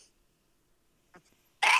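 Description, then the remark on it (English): A faint sharp inhale, then one loud, explosive sneeze bursting out at the very end, after near silence. “I'm sneezing.”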